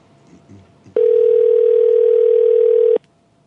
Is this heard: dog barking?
no